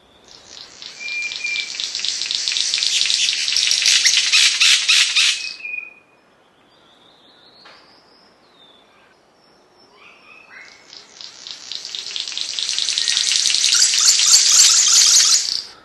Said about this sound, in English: Well, we were talking about the unusual behavior of the King of Saxony Bird of Paradise. Let's hear what it sounds like.